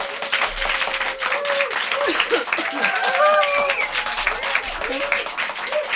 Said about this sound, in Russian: У нас сегодня публика, оркестр. Приветствуем группу, и публика заявит о своем присутствии громкими аплодисментами.